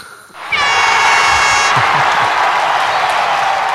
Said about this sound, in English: Ladies and gentlemen, put your hands together and a warm Omaha welcome for the Sand Snakes. Now, so you dub in like a crowd noise right there.